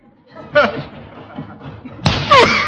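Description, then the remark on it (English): A man takes a running start and slams his body into an old sack with a thick, muffled thud, followed moments later by a second, louder impact. Grunting and laughing voices sound around the hits. “I'll get a good running start.”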